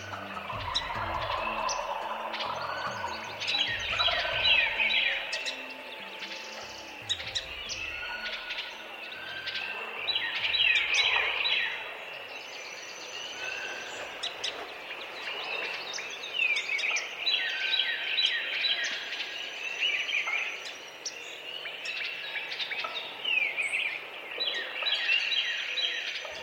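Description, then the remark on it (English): A dense dawn chorus of many birds at a wetland in Haw River State Park, North Carolina: overlapping chirps, whistles and trills in the high range, with repeated bursts of song over a steady background hum of calls and occasional lower clucks. “It's dawn at a wetlands in Haw River State Park in North Carolina.”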